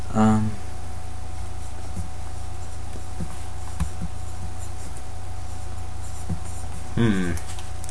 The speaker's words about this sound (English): enjoying writing with the pen. Pencil. Whatever. A new pen.